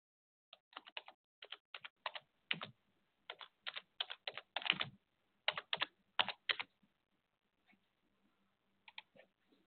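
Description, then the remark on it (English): Rapid keystrokes clatter on a computer keyboard in uneven bursts, loud, trailing off into a few scattered taps near the end with no voices. “I know you can hear my typing.”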